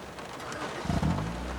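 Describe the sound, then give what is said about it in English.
Steady, hissing rain pours down as a woman drives away, with a brief low rumble swelling up midway beneath the downpour. No one speaks. “The woman hangs up her phone, looking petulant, then drives away in the pouring rain.”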